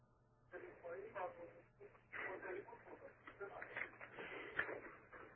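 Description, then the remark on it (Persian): Muffled, tinny voices from a caller's television in Colorado come through a phone line, continuous, with a steady low hum underneath and no clear words. “اگر این صدای تلویزیونتون را ببندید یا لااقل خیلی یعنی بیارید پایین ممنون میشیم، با تلفن صحبت کنید، بفرمایید.”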